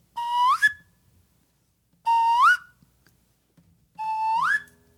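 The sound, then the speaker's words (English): Three loud whistle blasts imitating a bird call, made with a whistle to voice the bird in a told story, each about half a second and rising sharply in pitch at the end, evenly spaced with short silent gaps between. “In this story, I'm going to make the sound of the bird with my whistle.”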